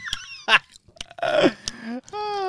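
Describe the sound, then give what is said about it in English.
A voice imitates noisy gum chewing on a microphone: wet smacks, clicks and squelchy mouth sounds mixed with short voiced groans over a couple of seconds. “If anyone watched last week, listen to me chops and chewing gum on the fucking microphone.”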